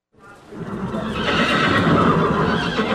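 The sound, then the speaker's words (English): A horse neighs loudly, a long, sustained whinny that starts abruptly and carries on for nearly three seconds, with no one speaking, at a backcountry horse packing workshop of the Becoming an Outdoors Woman program in Montana. “takes us to one of its workshops on backcountry horse packing.”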